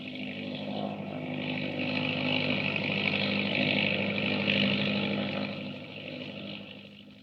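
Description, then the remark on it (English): An autogyro's engine and huge whirling propeller roar steadily as it rises almost vertically over the trees from the grounds of Stone House at night, a buzzing, droning hum that swells over the first seconds, holds, then gradually fades toward the end. No voices. “they're getting away in an autogyro”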